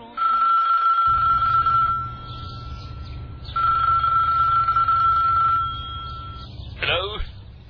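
A mobile phone rings again as its owner arrives at a lake, a steady electronic tone in two long bursts separated by a short pause, over a low rumbling background, followed by a brief rustle.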